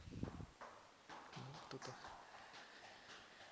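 Patter of small, light footsteps, like a child's, hurrying up or down stairs in a building near a music hall, around the second floor, a few soft thumps scattered irregularly over a steady background hiss.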